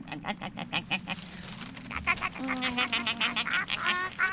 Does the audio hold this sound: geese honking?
yes